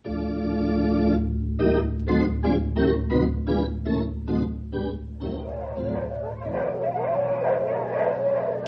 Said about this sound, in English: You huskies! Mush! Come on, you lumpers! You ain't had a good workout for a week! Get along here now! Dogs have much to eat and not enough work. They're real healthy looking.